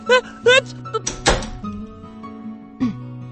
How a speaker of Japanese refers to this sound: 外で騒がしいのは困る。せめてドアを閉めさせてくれ。